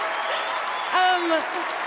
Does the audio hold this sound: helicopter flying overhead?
no